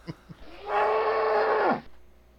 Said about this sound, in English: It's a cow. That's not a cow. Yes, it is. You do a better cow. Yeah, that real cow sounds horrible.